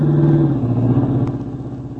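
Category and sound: vehicle, car driving past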